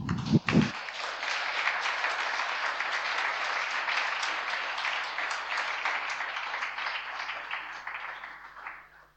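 A crowd applauds steadily, a dense wash of many hands clapping that holds for several seconds and then tapers off, preceded by a brief low-pitched thump at the start.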